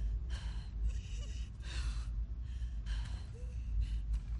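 labored gasping breathing

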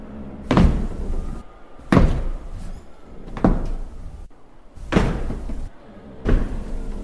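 door opening and closing

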